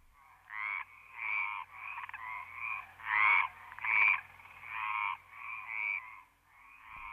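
A frog at the edge of a pond croaks over and over in a steady, rapid series of about ten raspy calls, clear, with no talking.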